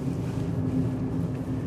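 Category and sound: vehicle, car driving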